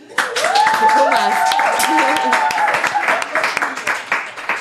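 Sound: applause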